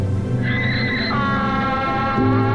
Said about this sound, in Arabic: ينعق الحمار من جديد.